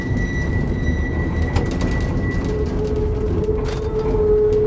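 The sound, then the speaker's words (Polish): Steady rumbling and rattling of an old four-wheeled tram on rails, its body rocking and shaking over uneven track at low speed, with tonal metallic squeals and brief clanks riding over a dense low-frequency roar throughout, fairly loud. “No dużo bardziej to nadwozie przenosi wszelkie nierówności, czyli tym tramwajem znacznie bardziej buja, telepie, no zupełnie inne dźwięki, zgrzytania.”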